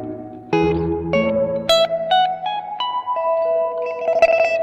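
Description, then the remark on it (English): An electric guitar played through an oil can delay effect plays a slow sequence of notes and chords soaked in a warbly, smeared delay, each attack trailing into wavering echoes that blur into a spacious wash. No voices. “But it just occupies, I mean, the whole thing about it being Oil Can is just like the space it occupies is so different than where your guitar lives.”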